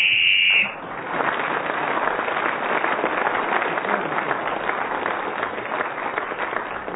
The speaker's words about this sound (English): Kept going successfully till the whistle went